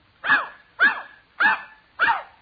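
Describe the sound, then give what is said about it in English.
A dog named Rover barks four times in answer to being asked how much is two and two. The barks come in a steady, evenly spaced rhythm, each short and loud, with brief silences between them and no one talking. “I told you he was a smart dog.”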